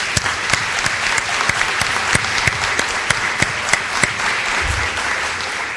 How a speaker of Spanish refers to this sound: Así que pido un aplauso para todos ustedes.